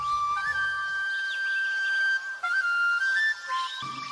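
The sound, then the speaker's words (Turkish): A whale's call: a long, steady high-pitched whistling tone that glides and bends slightly, with fainter overlapping whistles and a low rumble at the start and end. “Bu bir balina. İsminin anlamı büyük deniz canlısı.”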